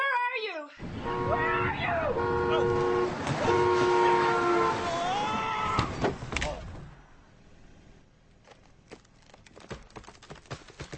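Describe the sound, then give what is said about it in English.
A loud, sustained car horn blares with wavering tones over chaotic commotion, then the sharp crunching impact of a car crash hits, followed by quieter scattered clatter and debris. “I had a car accident!”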